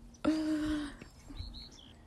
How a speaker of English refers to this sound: Do you hear that bird laughing? Oh.